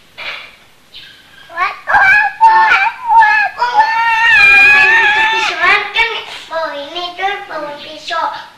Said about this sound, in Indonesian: Oh ayahnya. Bebek ya. Itu anaknya.